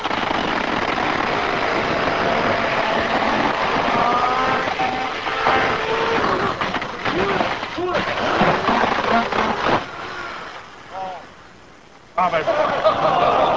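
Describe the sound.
An electric chainsaw runs with a loud, steady buzzing whine, its pitch wavering as it cuts into a computer monitor. Voices mix in, and near the end the motor drops off briefly before roaring back.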